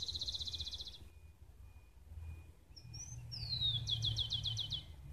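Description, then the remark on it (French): Birds sing at dawn, around 5 a.m., in a neighbourhood park in Bogotá, in quick, repeated chirping trills, a couple of overlapping songs with pauses between phrases, over a low background rumble of traffic. “Dans le parc du quartier, seuls les oiseaux m'accompagnent.”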